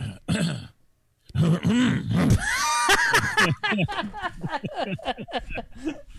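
throat clearing

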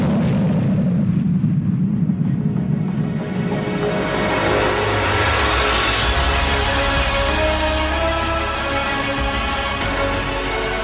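bomb explosion sound effect

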